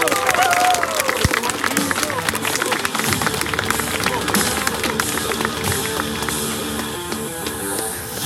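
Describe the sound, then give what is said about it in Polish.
A crowd bursts into sustained applause welcoming Polish MP Ryszard Wilk, dense clapping with some cheering and murmured voices mixed in, staying loud throughout before easing slightly at the end. “Poseł Ryszard Wilk, wielkie brawa!”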